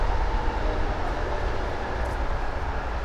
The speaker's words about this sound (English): And that loud traffic noise you hear is, of course, the I-680 corridor.